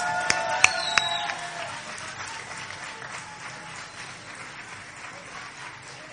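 A crowd breaks into steady applause, dense clapping filling the room for several seconds, with a few sharp whistles or shouts near the start before the clapping settles and continues.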